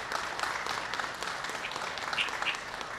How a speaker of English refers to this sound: So could you please give everyone a round of applause one last time?